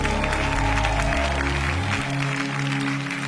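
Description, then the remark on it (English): An audience claps for Jesus in a steady rhythm together, loud and continuous, over sustained low organ or bass chords that shift pitch a few times. “Come on, if you're clapping for Jesus, make it bigger.”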